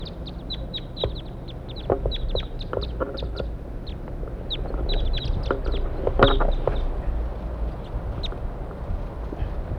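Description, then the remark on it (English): A flock of wild birds calls continuously as they approach and perch in a pine tree above a spot where a net is being set up, with many short, high chirps overlapping in quick, irregular bursts over a steady low outdoor rumble, with no one talking. “Learned about the wild birds. Here they come.”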